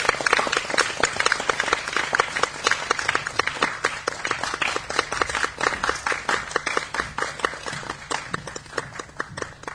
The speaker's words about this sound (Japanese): この真ん中に、美女をお呼びしたいと思います。女優の小峰蓮奈さんです。拍手をお願いいたします。